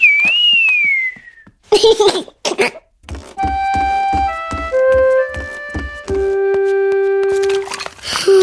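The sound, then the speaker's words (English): A child learning to whistle whistles a single wavering, sliding note, followed by a few breathy puffs of air, then a bright melody of sustained musical tones takes over. “Whistling is harder. … can whistle”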